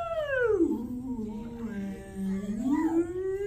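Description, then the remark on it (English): A human voice mimics a whale call with one long, wavering tonal moan that slides down, holds low, then rises again, sustained and fairly loud. “I can speak whale.”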